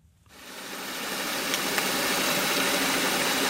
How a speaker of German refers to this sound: So klingt es unter Wasser, wenn ein Schiff vorbeipflügt. Das Schraubengeräusch erstickt alles andere.